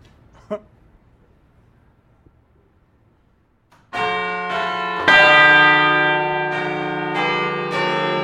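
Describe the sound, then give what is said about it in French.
After a few seconds of near silence, six large church bells of Notre-Dame burst into loud, ringing peals together, their overlapping tones swelling and sustaining with repeated strikes. “Nous venons d'entendre 6 cloches.”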